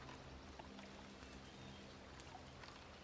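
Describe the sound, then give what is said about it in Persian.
Soft, steady water ambience by a river at sunset, a continuous gentle rush and trickle at low volume with no voices. “غروب آفتاب کنار رودخانه.”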